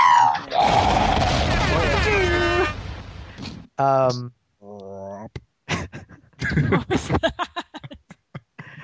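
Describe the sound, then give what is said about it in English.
A loud, rumbling explosion sound effect bursts in and roars for a couple of seconds with whistling, falling tones over it, then cuts off as people start talking excitedly. “the part of the show where there's an explosion, and we love explosions on this podcast.”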